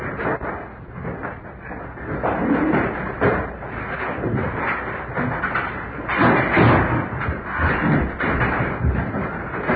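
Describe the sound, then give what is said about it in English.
A door being closed by a judge, with several dull thuds and knocks over a steady, muffled rumble of room noise and movement; no voices are heard. “will close the door.”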